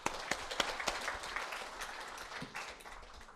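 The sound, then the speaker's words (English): A round of applause from a class of kids: many hands clapping in a dense, uneven patter with a few sharper claps standing out, sustained at moderate loudness for several seconds. “Thank you, kids. Let's give them a round of applause.”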